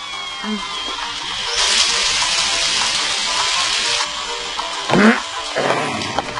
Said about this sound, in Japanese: そうか、この雨は明日の朝まではやまん。